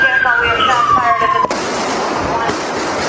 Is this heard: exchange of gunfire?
yes